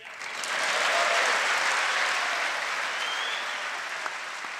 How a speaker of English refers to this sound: And so half of the group stood and cheered, as you heard there. Lots of people cheering.